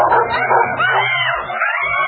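Loud dog barking mixed with yips and rising howl-like whines, played by a novelty carol alarm pressed when unwanted callers arrive at the doorstep, a continuous frantic burst lasting about two seconds with no speech.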